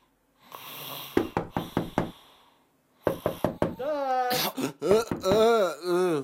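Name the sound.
knocking on a door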